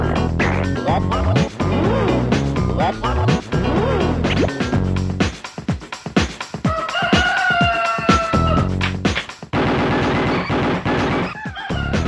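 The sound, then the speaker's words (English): A sped-up cockerel crows repeatedly in a squeaky, high-pitched voice, loud, mixed with sharp whacks and crashing thumps that punctuate the crowing throughout as the cockerel is killed. “So it sounds a bit Alvin and the Chipmunks, the sound. Ooh, that was the funniest death of a cockerel on any kind of audio thing.”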